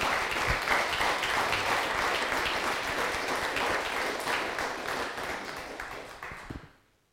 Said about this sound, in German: Vielen, vielen Dank auch im Namen des gesamten Kirchengemeinderates und dürfen jetzt gerne nochmal einen kräftigen Applaus geben.